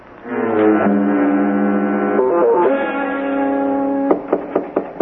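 A steady, low droning tone holds for several seconds, then a guard gives four sharp, evenly spaced knocks on the door of a jail room at the back of a police station.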